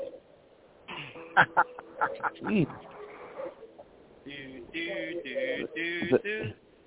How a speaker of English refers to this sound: Hey, we just listening to the ducks quack quack on here tonight. That's all.